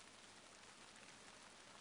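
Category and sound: nature, rain falling outside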